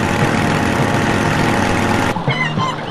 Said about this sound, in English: And here's another car.